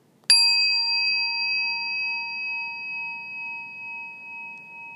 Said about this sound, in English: The second application. You listen to the sound of the bell again.